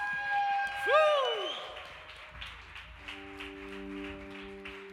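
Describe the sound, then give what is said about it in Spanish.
An audience claps in a steady, dense wash of applause given to Jesus, rising after a swooping synth-like tone, with sustained organ-style chords holding underneath toward the end. “Damos este aplauso a ti, Jesús.”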